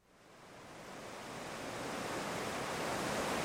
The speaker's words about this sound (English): pack their blue Chevy truck to stay at a friend's place, the sound of the rising river rushes behind their house.